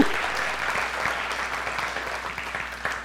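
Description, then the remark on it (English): An audience claps steadily at a service where baptisms are being held, a dense wash of many overlapping hand claps at a fairly even, moderate loudness, with no voices over it, tapering slightly toward the end. “You gave me one clap.”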